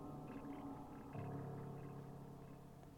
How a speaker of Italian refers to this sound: non ci sono bambini vicino a casa sua e le urla sembrano più quelle di una donna adulta. Forse qualcuno ha bisogno di aiuto, o forse è solo il vento.